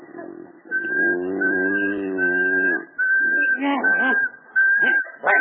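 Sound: monotone whistling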